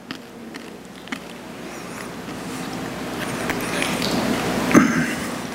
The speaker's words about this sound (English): And we identify with him by doing this. You're going to hear the crunching in this mic. I'm sorry.